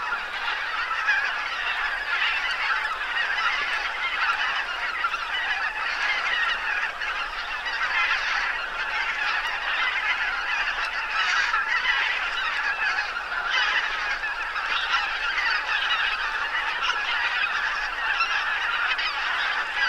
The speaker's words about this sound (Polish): Dobra, najpierw je nagramy. Około 2000 gęsi i troszeczkę mniej kaczek, z 1500.